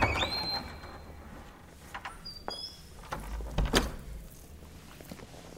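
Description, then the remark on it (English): A door swings shut with a brief creak and scrape, then lands with a soft, muffled thud a moment later. “Go with him. And close the door.”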